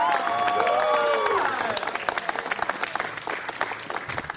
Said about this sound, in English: All right, everybody, big round of applause for Jonathan Freeney.